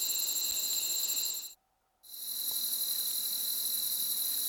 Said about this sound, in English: And this sounds like the same crickets, actually, from a different perspective, with a narrower stereo feel, but the crickets more centered.